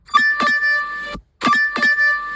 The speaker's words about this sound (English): Wait for this notification to go. Okay, therefore it's gone.